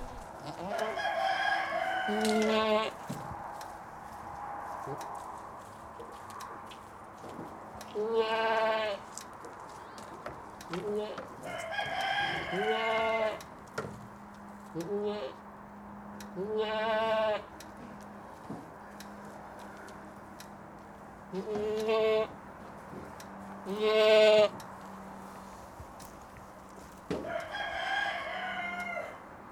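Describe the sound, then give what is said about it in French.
Goats bleat again and again on a goat farm, loud wavering calls spaced a few seconds apart over a steady low background hum, with no one talking. “Et puis la petite originalité, c'est qu'à l'entracte, on peut aller voir les biquettes tout en consommant une petite tartine de chèvre.”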